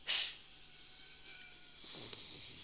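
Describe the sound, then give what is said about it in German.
A voice makes a short, loud, sharp hissing sound, like a drawn 'sss', that stops abruptly and cuts off a quiet 'i' cry. A fainter, breathy hiss follows softly near the end. “Gelöscht mit einem Zischlaut.”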